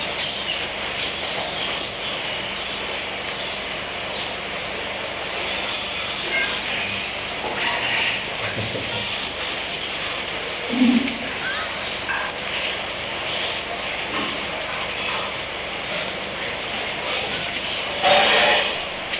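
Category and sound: household object, washing machine running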